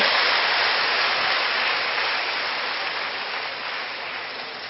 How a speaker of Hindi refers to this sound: अरे को ताली तो बजाओ अच्छे से, क्यों बजाने के मालूम है ना।